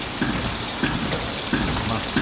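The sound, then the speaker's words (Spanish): Steady rush of water pouring through an opened sluice spigot at a water-powered forge, a dense continuous hiss, with faint rhythmic thuds of the trip hammer inside the building recurring roughly every two-thirds of a second beneath it. “Y aquí se abre la espita y ahí dentro del edificio escuchamos el martillo pilón.”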